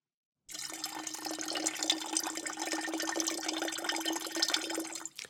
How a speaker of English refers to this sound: After that, pour the glass of milk into the mixer.